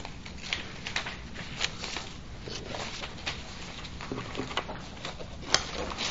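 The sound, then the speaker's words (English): Different pieces of paper rustle and crinkle for several seconds, a steady run of soft crackling handling noises with a few sharper flicks, and no one speaking. “different pieces of paper here.”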